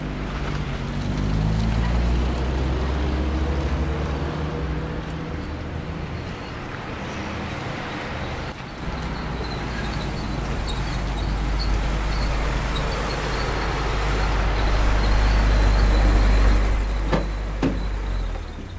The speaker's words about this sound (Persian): برام این ماشین روشن کن. چش بابا.